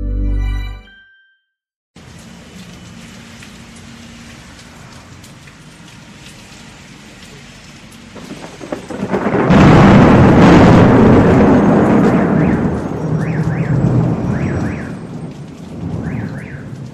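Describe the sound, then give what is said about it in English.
A steady wash of heavy rain from a July winter thunderstorm in Ethiopia builds into a loud, rumbling burst of thunder midway, with the downpour continuing strongly afterward; a faint warbling tone, like an alarm, chirps near the end. “Huge thunderstorms bring the rains, and in a country where 80% of the population are directly involved in agriculture, it's ploughing time.”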